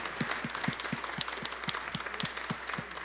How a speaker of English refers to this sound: Aren't these kids great? Let's give God some thank yous through our applause for our children.